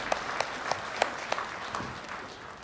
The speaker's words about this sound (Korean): 박수를 하나님께 드리겠습니다.